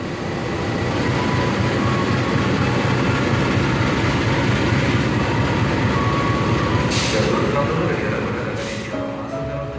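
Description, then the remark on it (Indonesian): A main train rumbles past, a loud, continuous clattering roar that holds steady throughout, with two short hissing bursts near the end and faint voices underneath. “Kereta utama, bukan? Kita tidak akan bisa masuk kereta seperti itu.”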